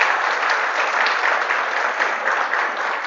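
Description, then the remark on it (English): An audience claps steadily throughout in acknowledgement of a church volunteer who runs the sound, a dense, loud, continuous patter of many hands with no voices standing out. “Yes, applause.”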